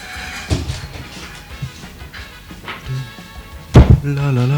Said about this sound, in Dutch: Wordt even van stoel verwisseld hier. La. Chaotische studio situatie.